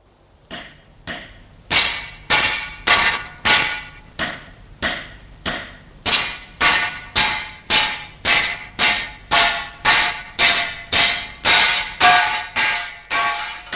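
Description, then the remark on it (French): Repeated heavy metallic blows of an iron bar smashing the lock of a building's entrance door strike in a steady rhythm about once per half-second, each a loud, ringing clang. No voices are heard. “Il est obligé de donner des coups. Des coups pour casser la serrure. Ça fait un bruit terrible.”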